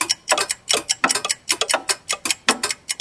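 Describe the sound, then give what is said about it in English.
Dense, overlapping ticking from 99 clocks at once, sharp clicks piling up in an uneven, busy rhythm, fairly loud with no voices. “Wow, how many clocks have you got? 99 clocks.”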